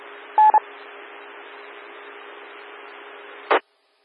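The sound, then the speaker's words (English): A quick pair of touch-tone dialing beeps, a call being placed to the National Weather Service to relay hail reports, cuts through a steady radio-like hiss, followed by a long stretch of static and a short burst of noise before it goes silent. “I am currently calling National Weather Service to relay.”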